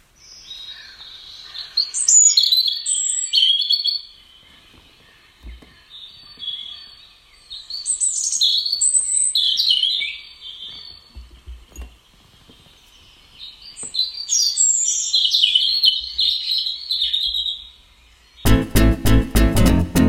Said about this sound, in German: nicht etwas blechern klingen, weil die Geräusche aus dem Handy-Lautsprecher kommen, aber ganz ohne geht's jetzt auch nicht, wenn wir so viel über diesen einen Vogel gesprochen haben. Lauschen wir doch mal kurz dem Gesang des Rotkehlchens.